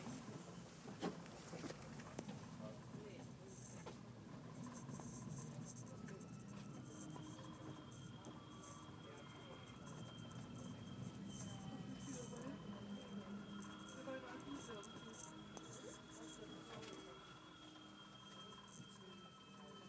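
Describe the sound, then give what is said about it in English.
A passenger train rumbles steadily as it pulls in and people get off, with a thin high brake squeal, scattered clunks and a murmur of people moving about and talking. “Now I think from my research on Wikipedia, places, I think I need to turn right when I get off the train.”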